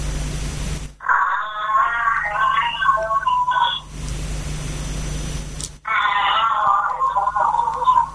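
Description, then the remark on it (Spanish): Giraffe vocalization: two long bursts of wavering, harmonic, fairly high-pitched calls, somewhat like an odd crying baby, separated by a pause, over a steady hiss. “Pues es de la jirafa.”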